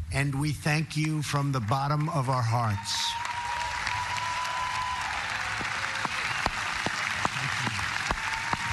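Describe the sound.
President Trump speaks for a few seconds at the 75th anniversary commemoration of the D-Day Normandy landings, then a steady wash of audience applause, including from over 170 WWII veterans, takes over, many hands clapping in a dense, continuous patter that holds at an even level until the end.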